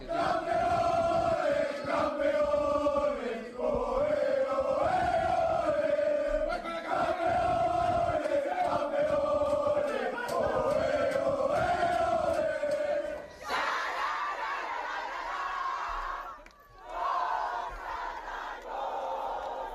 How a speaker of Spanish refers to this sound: Son los gritos de campeones tanto del Fuenlabrada como del Tacón.